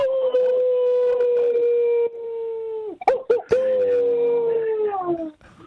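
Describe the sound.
A voice imitates a wolf howl: a long, loud sustained wail that slides downward, a brief broken yelping break, then a second drawn-out howl that sinks and fades.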